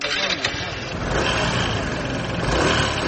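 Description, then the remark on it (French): An X-Max motor scooter ridden by a young parcel delivery rider hums steadily amid busy street traffic in Dakar, Senegal, a dense, continuous rumble with the bustle of the road around it, loud throughout. “Assis sur sa moto X-Max, casque bien vissé sur la tête”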